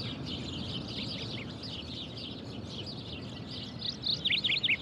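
Birds in the trees chirp and twitter steadily over a soft outdoor hum, with a brighter, louder cluster of quick tweets near the end. No one speaks.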